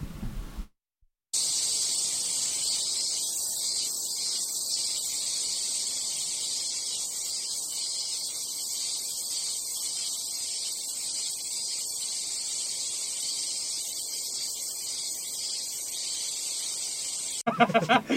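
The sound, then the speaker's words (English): A dense, unbroken chorus of cicadas buzzes loudly and steadily for the whole stretch, a high shimmering drone with soft rushing wind noise underneath and no voices. “So that was cicadas. This is a 10 hours of cicada YouTube video.”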